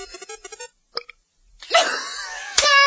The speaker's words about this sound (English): can you outdo that massive hunk of belch?